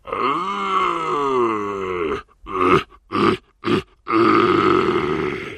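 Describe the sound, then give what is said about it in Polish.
A hunter imitates a red deer stag's rutting roar to lure a combative stag: a long, deep, drawn-out bellow, then a few short guttural grunts, and another sustained low roar, loud. “W ten sposób myśliwy naśladuje odgłosy wydawane przez byki jelenia i wabi co bardziej zadziornego samca, co bardziej mocnego samca.”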